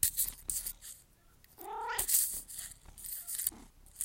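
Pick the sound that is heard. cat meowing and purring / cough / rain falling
cat meowing and purring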